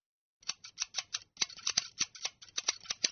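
scissors cutting hair

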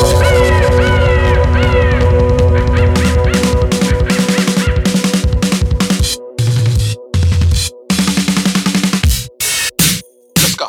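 crows cawing

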